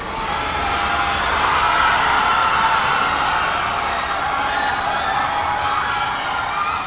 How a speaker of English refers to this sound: Crowd chants of guilty, guilty were also augmented with cheers and some people overcome by emotion. One woman saying this was justice and this jury got it right.